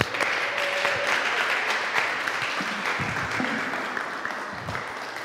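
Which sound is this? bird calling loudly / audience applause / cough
audience applause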